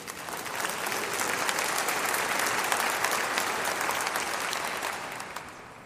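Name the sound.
audience clapping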